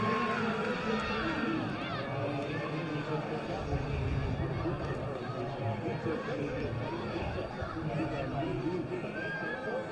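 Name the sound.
baseball stadium crowd cheering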